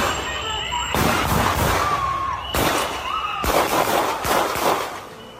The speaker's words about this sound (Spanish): corresponde a la detención de un ciudadano de Estados Unidos con la documentación en regla que estaba grabando con su móvil la actuación de la policía migratoria de Donald Trump. Y estos que vamos a escuchar son los disparos que lo mataron.